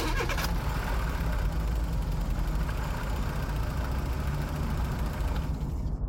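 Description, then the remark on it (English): An old, worn-out car's engine cranks at street level, a steady low mechanical churning with a rough pulsing rhythm that keeps going without catching, and no voices over it. “So I made my way down to street level, cleared the layers of parking tickets off my piece of junk car, tried to start the engine, and, well, it didn't go so well.”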